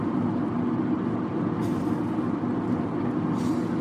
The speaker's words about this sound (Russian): Сейчас дует, да. Ветер 70 км в час.